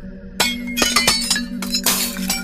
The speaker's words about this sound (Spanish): Entonces se escuchó que se quebró algo adentro de la casa, algo de vidrio.